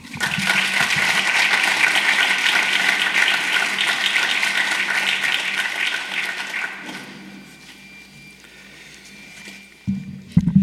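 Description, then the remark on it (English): A crowd applauds steadily for about seven seconds as a speaker from the governor's office is brought up to the podium, a dense wash of clapping that then fades to quiet, followed by a few faint thumps near the end. “And right now, it's my pleasure to bring up to the podium from the governor's office, and I need us to give him a good hand of applause,”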